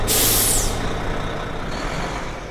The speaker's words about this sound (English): a different form of mass transit, commuter buses